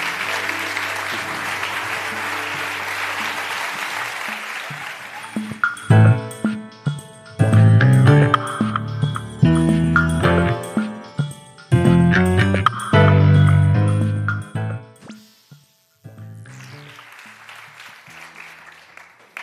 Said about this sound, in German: Großer Applaus. Großer Applaus.